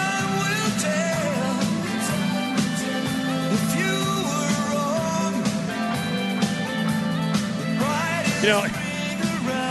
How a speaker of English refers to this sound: while this song is playing. It sounds like it should be a theme song to a TV show